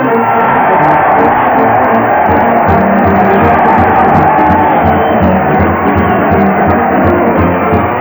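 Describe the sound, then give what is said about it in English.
A large crowd at the Town Hall Tonight show cheers and shouts continuously for comedian Fred Allen as he leads his weekly parade to the old Town Hall, a loud, dense roar of many voices with scattered whoops and yells rising above it, sustained without a break. “Yes, sir, listen to that crowd cheering Fred Allen as he heads his weekly parade to the old Town Hall.”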